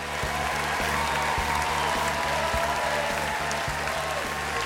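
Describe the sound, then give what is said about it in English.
A large audience stands, cheers and applauds steadily as comedian Jim Jefferies appears on stage at a show in Chicago, a dense wash of clapping and crowd noise that holds at full volume throughout, with faint rhythmic thumps underneath. “The crowd stands up and cheers.”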